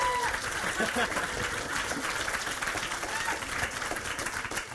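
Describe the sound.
A crowd cheers and applauds steadily for several seconds, a dense wash of clapping with voices whooping and calling out throughout, holding at an even, fairly loud level.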